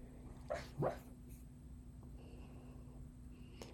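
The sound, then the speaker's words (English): A sleeping puppy gives two soft, brief whimpers in quick succession while dreaming, then goes quiet against a low, steady background hum. No one speaks. “My puppy is making little sleepy whimpers in his dream, so you might be hearing some of those noises in the background”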